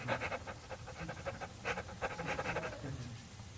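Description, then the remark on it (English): A person imitates a dog panting: quick, breathy huffs in a steady rhythm, fairly quiet, with no talking. “I open my mouth and pant because I long for your commandments.”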